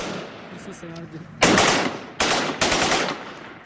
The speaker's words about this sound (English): And here, the Syrian opposition yesterday broadcast sound of exchange of fire between Syrian opposition and pro-regime forces in the capital, Damascus.